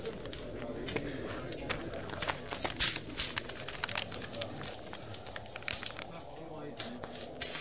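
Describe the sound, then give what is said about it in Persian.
Crisp rustling and crinkling of a paper letter from a man's wife being unfolded, with a steady run of sharp, irregular crackles lasting several seconds. “راستی بیا، این مال توست. نامه است.”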